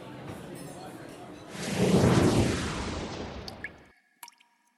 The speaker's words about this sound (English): Next it says, whoosh and clever comment from ….